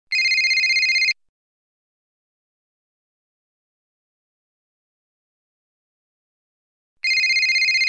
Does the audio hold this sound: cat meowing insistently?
no